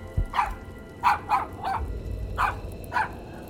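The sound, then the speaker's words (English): A dog barks six times in short, evenly spaced yaps, moderately loud, with a low rumbling background noise underneath and no talking. “Come sit down, silly dog.”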